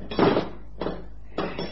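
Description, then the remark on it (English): Three heavy metallic blows, a hammer driving a punch against a steel safe in an attempt to open it, each strike ringing briefly before the next lands at a steady, deliberate pace. No one speaks. “give me the hammer and the punch.”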